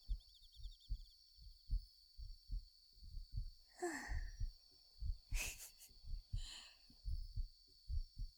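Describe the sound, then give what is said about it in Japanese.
A steady heartbeat thumps in soft paired beats throughout, low and muffled, with a few brief breathy rustles partway through and a faint constant hiss in the background. “心臓の音、聞こえるかな？あ、本当に聞こえるんだ。”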